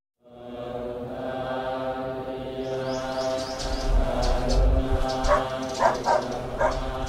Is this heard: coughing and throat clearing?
no